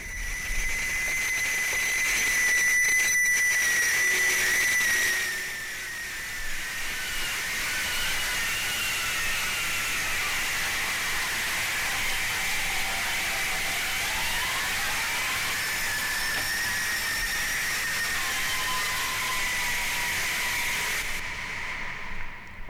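Harsh noise music: a dense, continuous wall of hissing, screeching static with sustained shrill whistling tones that bend and slide in pitch, loud throughout with no voices, cutting off abruptly at the end.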